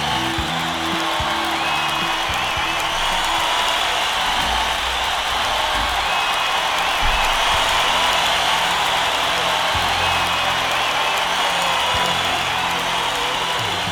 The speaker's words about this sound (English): Crowd goes wild as the great one has a sip of his martini.